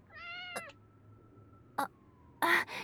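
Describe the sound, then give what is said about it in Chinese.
A kitten found on a road gives one thin, high-pitched meow, followed by a few short, noisy bursts like rustling or knocking. No one speaks. “现在不是说这个的时候，我们先找猫妈妈。”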